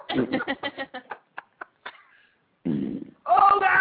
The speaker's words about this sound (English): Why are farts so funny?